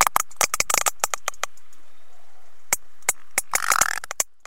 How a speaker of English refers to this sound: These are a group of sperm whales swimming together, communicating. So whale biologists knew already that there was some structure to this sound. Those clicks that you hear, they come in little pulses.